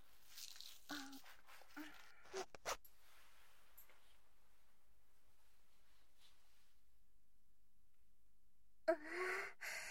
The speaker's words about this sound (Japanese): じゃあ脱がせるから座って。ジッパー口で下ろすね。